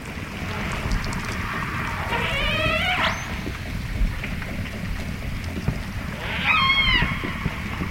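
Underwater recording with a steady hiss and rumble, a rapid ticking of orca echolocation clicks, and two separate whistly, rising orca family calls from the AJs, each about a second long, several seconds apart.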